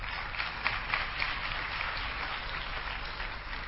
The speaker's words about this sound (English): So this is all of the clapping we'll be doing for this weekend. You have finished clapping for the whole weekend.